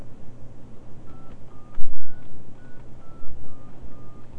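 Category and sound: signal or alarm, phone keypad dialing tones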